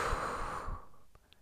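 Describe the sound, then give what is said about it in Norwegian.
A long, steady exhale of breath during a breathing exercise, broad and airy, fading out after about a second, with a faint click near the end. Fairly soft, with no talking. “Pust ut.”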